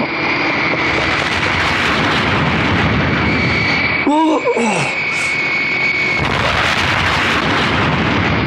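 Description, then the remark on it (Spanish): A loud, continuous roar of very fast jets crossing the sky and blasting explosions, the jets exploding like rockets in the air and the blasts shaking a huge residence and the jungle, fills the whole stretch, broken midway by a brief rising and falling whistle like a rocket streaking past before the rumbling roar resumes. “Cruzan por los cielos velocísimos jets que estallan como cohetes en el aire.”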